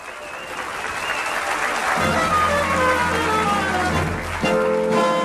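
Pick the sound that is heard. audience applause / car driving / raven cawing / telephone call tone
audience applause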